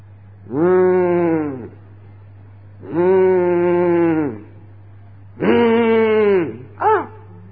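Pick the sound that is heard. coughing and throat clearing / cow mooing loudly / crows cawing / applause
cow mooing loudly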